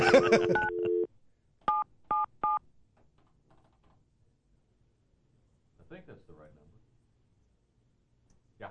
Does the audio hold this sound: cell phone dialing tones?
yes